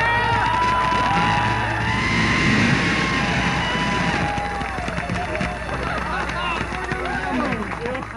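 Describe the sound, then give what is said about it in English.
A crowd erupts in loud, sustained cheering and whooping at the Jet Propulsion Laboratory as Mars exploration rover Spirit lands, with overlapping excited shouts and voices clamoring together for several seconds, so dense it nearly overwhelms the microphone. “That microphone-straining pandemonium at the landing of Mars exploration rover Spirit was only the beginning.”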